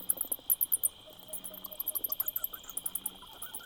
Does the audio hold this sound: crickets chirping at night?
yes